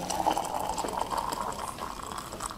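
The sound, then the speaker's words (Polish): Hot tea streams steadily from a thermos into a mug, a continuous gurgling pour with a bright splashing tone that holds for a few seconds, with no talking. “Proszę bardzo, już nalewam.”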